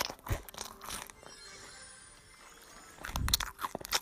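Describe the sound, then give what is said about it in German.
Loud crunchy chewing with bursts of wet smacking at the start and end, separated by a quieter stretch of low background noise; no one speaks. “Keiner will deinen Schmatzen hören.”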